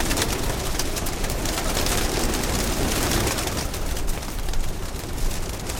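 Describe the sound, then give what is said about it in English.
A flock of pigeons cooing and murmuring together on a rooftop, a steady, dense chorus with a rough, rumbling wash of noise underneath and no one speaking. “This guy's got a nice car, but I got the Mercedes-Benz of pigeons.”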